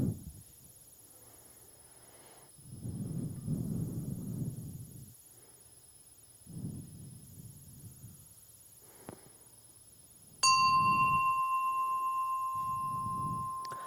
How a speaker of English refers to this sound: Please take now a moment in silence to prepare your heart for worship. Our service will begin in just a moment at the sound of a bell.